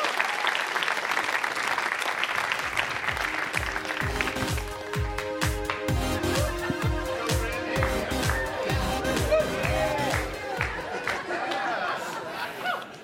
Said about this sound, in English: Just give him a big clap.